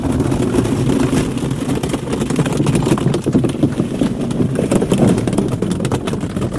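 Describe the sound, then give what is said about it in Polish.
A steady mechanical rumble with irregular clunks and knocks as a car rollover simulator turns a car over with a man inside, simulating a rollover at 20 km/h, loud throughout with no one speaking. “To jest symulator dachowania.”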